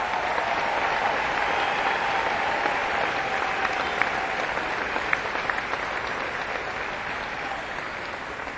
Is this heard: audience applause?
yes